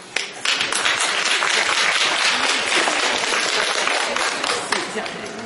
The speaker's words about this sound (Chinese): 谢谢各位掌声。